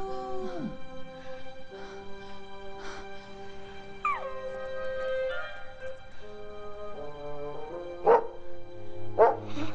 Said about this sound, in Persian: زوزه نکش، خواهش میکنم.